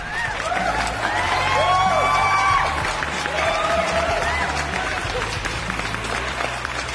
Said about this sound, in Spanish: Pues muy fuerte, ya lo digo yo, que soy casi la primera sorprendida y la más contenta también de poder seguir bañándome un día más en los aplausos de las masas.